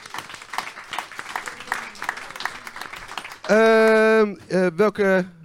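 Steady applause from a crowd for about three seconds, followed by a loud, sustained tonal burst and a few shorter blasts, like a jingle or horn sting.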